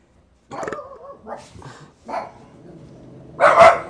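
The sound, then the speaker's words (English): Dogs barking in a quick series of sharp yaps and woofs, with short gaps between them and a final burst that is the loudest, with no one talking. “They would cause dogs to bark as they came out of his butt.”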